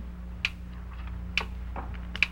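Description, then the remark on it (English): A small timer ticks steadily like a little clock, three crisp clicks about a second apart, fairly faint, over a low constant hum with no talking; it is the timer of an electric circuit connected to a drum of gasoline, behind boxes. “Sounds like a little clock.”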